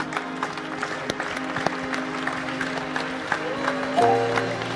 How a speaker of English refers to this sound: But you don't need to clap. If you have to clap, clap for the Lord.